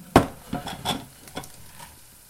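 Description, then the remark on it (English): Oven chips sizzle and crackle softly as they are taken out of the oven, broken by a few sharp scrapes and knocks of a tray or utensil, with no one speaking. “Here they're sizzling nicely.”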